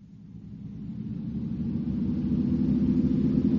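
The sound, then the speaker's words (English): A squad car drives through an old tunnel road that is off limits to civilians, with no other traffic: a deep, continuous engine rumble that swells slightly louder over a few seconds, steady, with no voices. “We raid a squad car. There is no other traffic. Now, these old tunnel roads are off limits to civilians.”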